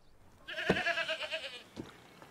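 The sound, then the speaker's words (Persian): A single goat bleats, a wavering, nasal cry lasting about a second, followed by a brief soft grunt before it fades into quiet. “هم نشینی با خوکا و یه بزو به زن و بچه ترجیح دادی؟”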